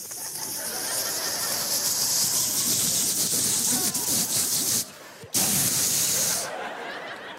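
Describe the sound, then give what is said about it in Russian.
A voice imitates a lawn sprinkler in California at 3:00 a.m. with a long, steady, bright hiss, briefly cut off, then resuming in a second burst before trailing away. Fairly loud. “Ни разу не просыпался от поливалки, пока не переехал в Калифорнию.”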